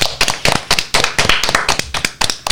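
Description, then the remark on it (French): A small group of radio hosts applaud themselves at the end of their final show, clapping together in quick, uneven bursts, the hand claps sharp, with no voices over them. “Comme c'est notre dernière, on va s'applaudir pour cette ultime émotion.”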